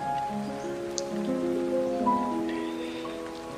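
Steady rain hisses softly in the background beneath sustained, droning musical tones that hold and overlap throughout, with no one speaking.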